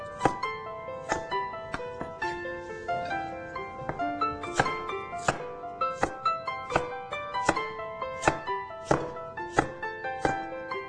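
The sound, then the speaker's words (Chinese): A knife strikes a cutting board in a steady series of crisp thunks, about one every second, roll-cutting water bamboo shoots into long chunks, over a bed of soft background music with no talking. “好，那茭白笋呢，我们呢切这个有一点长条的这个滚刀块哈，长条的滚刀块。”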